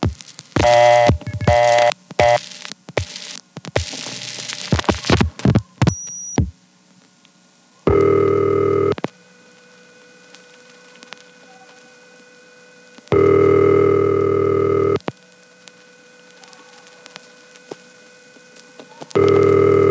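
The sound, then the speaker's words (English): A telephone line rings repeatedly in long, evenly spaced bursts with pauses between, after a quick flurry of dialing tones and clicks at the start. No one speaks. “And this time it goes right on ringing.”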